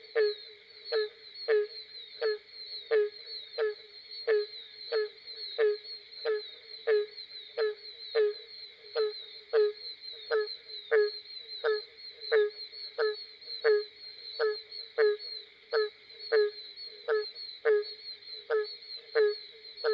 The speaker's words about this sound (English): The sounds that come from a southern swamp at night are a real treat to record. The barking tree frog.